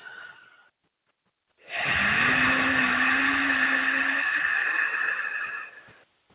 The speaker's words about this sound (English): So it's a neutral hum or tone that moves through the larynx, the pharynx, around the trachea and esophagus, and it activates and strengthens the vagal nerve, or when you activate it, you're raising vagal tone.